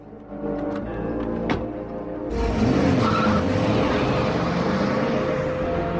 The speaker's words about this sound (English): They drive off.